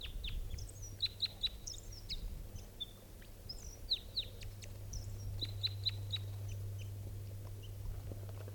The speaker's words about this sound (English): That was the song phrase in flight that it gave up on approach. So here's that bird. In flight, that was 387's wild bird.